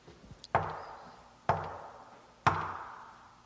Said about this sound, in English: I don't hear any movement, do you? Or knock again. This is not getting results.